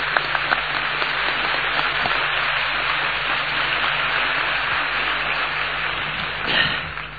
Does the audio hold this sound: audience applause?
yes